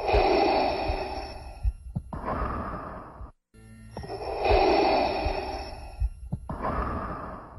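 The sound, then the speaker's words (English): Loud mechanical respirator breathing of Darth Vader from Star Wars, a sound created by Ben Burtt: two slow, hissing inhale-exhale cycles with a raspy, filtered quality, heard alone with a brief pause between them. “You hear Darth Vader breathing during the scene, and it's just like this...”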